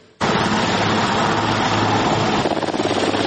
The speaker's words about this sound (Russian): Небо над швейцарским Бюргенштоком 15 и 16 июня было в буквальном смысле заслано прилетающими вертолетами мировых лидеров.